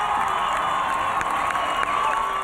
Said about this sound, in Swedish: När de nygifta möter det norska folket på slottets balkong efter bröllopet och lyfter kronprins Håkon upp Marius i sin famn så att han ska se bättre. Och folket jublar.